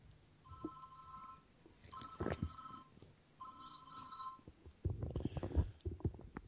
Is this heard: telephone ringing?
yes